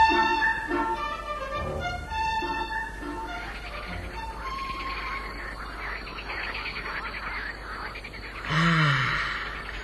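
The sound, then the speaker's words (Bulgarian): Frogs croak in a steady chorus of throaty, pulsing calls over a constant hiss, with a louder, rougher burst of croaking near the end. “Не, това са жаби.”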